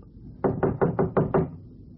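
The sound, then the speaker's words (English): Six quick, evenly spaced knocks on the door of Baxter's apartment, number 1810 on the 18th floor, solid and fairly loud with a hollow thud, then silence; no voices. “Here's the apartment, 1810.”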